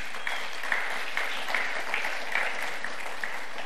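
A room full of people applauding steadily, dense overlapping claps sustained at an even level throughout, fairly close and moderately loud, with no voices breaking through.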